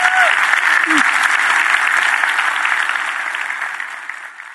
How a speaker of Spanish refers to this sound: Si Dios te habló, de un aplauso al Señor, que Él se lo merece. Amén.